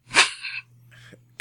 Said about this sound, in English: I'm gonna be editing out as many of these coughs as I can. Right. And I think that will do it for this episode of Transmissions. And I will cough up a lung.